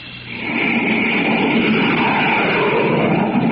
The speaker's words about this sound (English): Hear that? Do you know what that sound is? It's a pioneer of the skies striking out for new worlds to conquer. You're listening to the blazing roar of a jet plane.